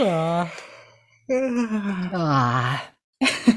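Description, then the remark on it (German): A deliberate, exaggerated yawn done as an exercise with the jaw opened wide, voiced as long drawn-out groans that slide down in pitch, fairly loud, followed by a short breathy exhale at the end. “Es ist so, manche Menschen stresst das, wenn sie dieses Gähngeräusch hören, weil es verbunden ist mit das darf man nicht oder Verbote damit.”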